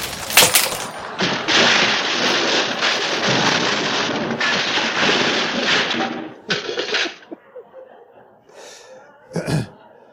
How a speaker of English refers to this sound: There were loud banging sounds, cracking of wood, gigantic bang when the cross hit the table.